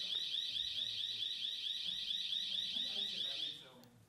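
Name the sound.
alarm sounding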